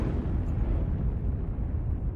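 A deep, heavy explosion rumble rolls on without letup, a dense low roar of a bomb striking the next street, raising dust, loud and sustained with no voices present.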